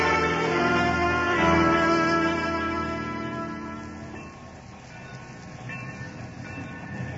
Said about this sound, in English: There, the train reaches Chandrapur now.